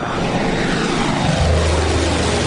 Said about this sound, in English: the two water bombers take off on the 14-hour flight to Montreal, 1,800 kilometers away, their longest stretch over land.